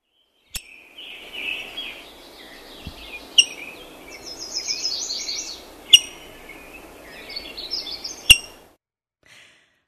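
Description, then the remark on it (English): Rose-breasted grosbeak calls: four sharp, squeaky chip notes spaced a few seconds apart, mixed with bursts of sweet warbling birdsong over a steady outdoor hiss, fairly clear. “You can listen for the call of the rose-breasted grosbeak, for example.”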